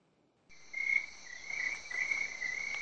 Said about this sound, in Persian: ناگهان صدای زیر قورباغه اونو از جا پروند. قورباغه لب برکه روی سنگی نشسته بود.